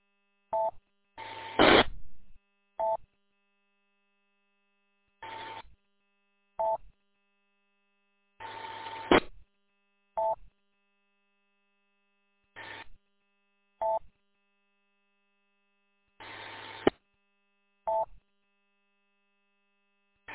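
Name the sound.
radio static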